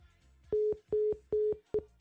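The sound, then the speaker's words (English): Four loud, steady electronic beeps, evenly spaced, the last one clipped short: the disconnect tone after a caller's phone line drops during a call-in program. No voices. “The phone gone again.”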